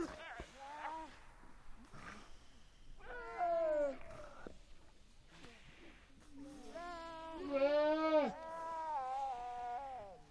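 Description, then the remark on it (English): Drawn-out, wavering animal calls with rich harmonics, some sliding and moaning, others short and bleating, overlapping like a small chorus of Weddell seal mothers and pups calling back and forth on land, fairly loud. “It's the vocalization of mothers and baby Weddell seals.”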